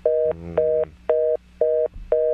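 A telephone dial tone, heard after a dropped call, beeps on and off in steady, quick pulses: five short bursts with brief gaps between, loud and clear with only faint background rumble and no talking.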